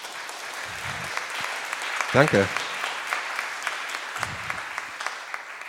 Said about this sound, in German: Ah, großartig. Toll. Ich glaube, ein kurzer Applaus fürs Technikteam.